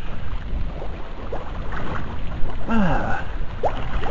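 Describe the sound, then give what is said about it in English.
Methane gas from leaves breaking down in the water bubbling up through the water: a few gurgling, rising bubble pops in the latter half, heard over steady rushing wind and water noise, with a brief murmur of a voice. “There you go, you can hear that shit bubbling away.”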